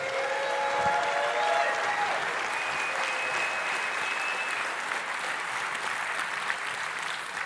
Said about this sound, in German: Macht mal einen unglaublich dicken Applaus für Arne Vogelgesang!